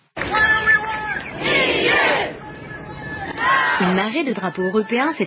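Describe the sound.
A large crowd of protesters at a pro-Europe, anti-Brexit march in Hyde Park, London, holding European-coloured signs and chanting together in unison, a dense roar of many voices with rising shouted phrases, loud and sustained throughout, with individual voices breaking out near the end.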